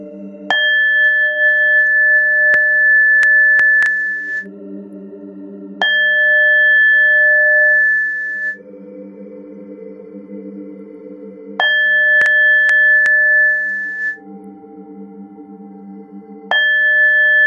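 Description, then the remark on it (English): Meditation bowl chimes ring out four times, roughly every five seconds, each clear bright tone sustaining for several seconds over a soft low drone, with no voices. “And now with each chime of the ball, the lotus flower continues its expansion.”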